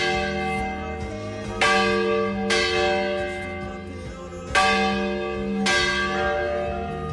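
Church bells ring out the festive peal that announces the town's main festival (festa major), several bells striking in an overlapping, rhythmic pattern with long resonant tails, loud, with no voices.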